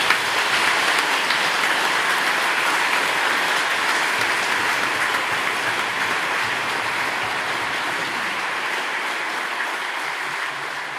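A large audience in a church claps steadily for the young people standing before the altar, a dense, continuous wash of applause that holds strong for the whole stretch, easing only slightly toward the end, with no one speaking.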